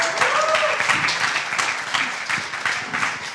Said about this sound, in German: Habt ihr Bock auf …? Perfekt, hier ist er. Wir werden uns noch schön mit den Stühlen hier positionieren. Danke mal, Applaus.